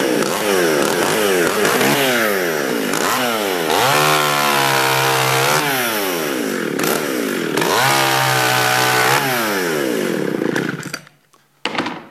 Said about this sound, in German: Ja, wunderbar, die Säge funktioniert. Jetzt werden möglicherweise alle diskutieren und sagen, oh, guck mal, mitten im Gottesdienst eine Motorsäge und so weiter.